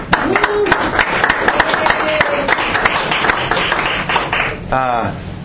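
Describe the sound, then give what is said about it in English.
A crowd claps steadily for several seconds, dense and fairly loud, with a few voices calling out over it and one voice rising briefly near the end. “And I want to hear a round of applause”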